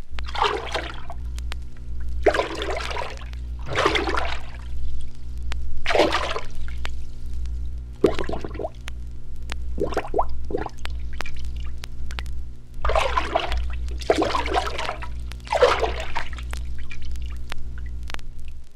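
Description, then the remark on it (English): A paddle or stick, plunged about 8 inches into a lake or river, swishes briskly to and fro to imitate a female moose walking in the water, making about a dozen splashy surges in an uneven rhythm like something wading, over a steady low hum, with no talking. “Plunge a paddle or stick about 8 inches in the water and move it briskly to and fro.”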